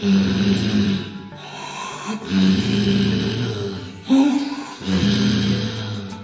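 Loud, rhythmic snoring with three long rasping breaths, each a low rumbling drone separated by brief pauses, with no talking.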